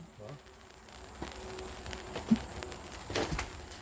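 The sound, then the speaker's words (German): Raindrops fall in soft, irregular taps over a faint steady hiss, with a few sharper, louder drops standing out now and then. “Ich werde mal ein bisschen die Regentropfen vom Geräusch her und auch von der Stimmung her einfangen.”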